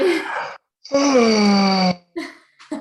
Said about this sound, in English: So you can do yawns. Yawning is amazing for releasing blockages. Mm-hmm. And they are fun as hell as well.